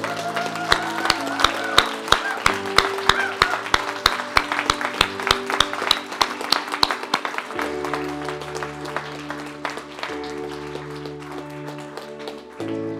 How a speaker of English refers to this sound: Can you all stand to your feet and give these individuals a round of applause?